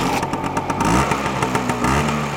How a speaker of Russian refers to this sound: Под окном снова раздражающе затрещал мотоцикл. И снова все стихло.